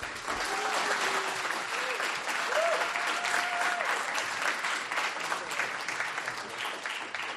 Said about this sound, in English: So can you please help me give a big round of applause